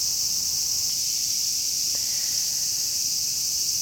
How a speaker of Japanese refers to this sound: ちょっと風が強すぎて、あと波しぶきがすごすぎて、後ろの松林の公園まで下がってきました。これは配信にも聞こえてるかな。まあすごいセミの音、元気ですね。この暑さでご機嫌になってますわ。